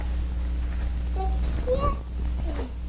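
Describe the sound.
A child's voice imitates a cat, giving three short meowing cries with rising and falling pitch over a constant low background hum.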